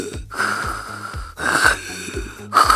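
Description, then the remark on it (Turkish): A voice imitates heavy, rasping, Darth Vader-like respirator breathing, as after coming out of a dive: three long, loud wheezing breaths in a steady rhythm, with no other sound. “Sonra çıktığımda Darth Vader gibi nefes alıyordum.”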